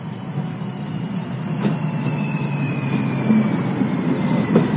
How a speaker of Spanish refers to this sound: El tren insurgente representa un paso significativo para la infraestructura de transporte de pasajeros en el centro de México.